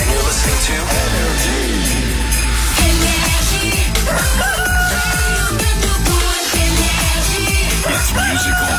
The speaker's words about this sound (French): Il est 8h, qu'on amène le coq.